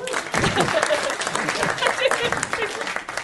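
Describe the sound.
A crowd applauds steadily and loudly, dense clapping sustained throughout with voices faintly mixed in beneath the noise.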